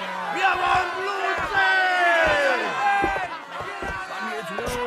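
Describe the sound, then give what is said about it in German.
A crowd at a hanging shouts and jeers at the executioner together in a loud, continuous roar, with rising and falling yells layered over one another and a few sharp thuds breaking through. “Kümmer dich nicht um das Gezeter. Sie schreien dem Henker zu, nicht dir.”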